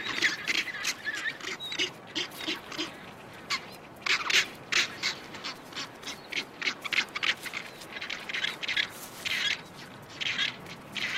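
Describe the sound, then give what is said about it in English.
A dense chorus of harsh, braying rockhopper penguin calls from parents and chicks in the Falklands, overlapping in rapid bursts with a rasping, ratchet-like quality, like a busy colony. “Rockhoppers are feisty birds, but these hassled parents struggle to satisfy their chicks' ravenous appetites.”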